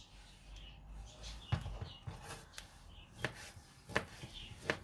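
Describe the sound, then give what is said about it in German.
A knife chops vegetables into small cubes on a board in a loose, irregular rhythm of sharp, crisp thuds, about seven or eight strikes over a quiet background with no talking. “Schnippi, schnippi, schnipp.”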